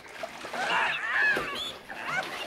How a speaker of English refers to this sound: One of the men lifts the ferret and, looking pointedly at the dude, drops it into the bath.